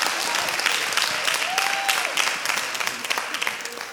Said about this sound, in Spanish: Oh, el cumpleaños de mi esposa fue el jueves pasado. Así que un aplauso aquí para mi esposa